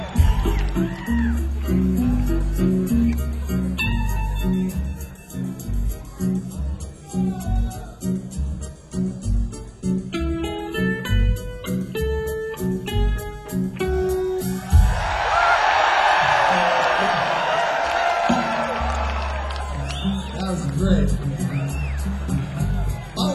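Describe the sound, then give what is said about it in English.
Band music with a heavy bass beat plays, then a crowd breaks into a loud burst of cheering and shouting for a few seconds before the music carries on. “If you hear that, it means suddenly turn around and start cheering as if the band is at the back of the room.”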